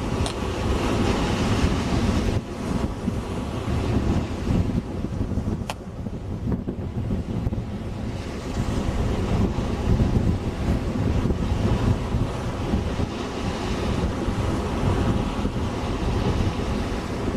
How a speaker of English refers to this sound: See, the waves break against the rocks and they're not even coming anywhere near Kermit and the doll.